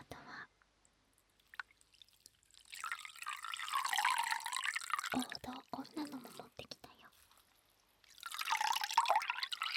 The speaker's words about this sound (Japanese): でね、もう一つ、よいしょシュッシュできるものを持ってきました。ちょっと新しいかな紙にアルコールスプレーをシュッてした。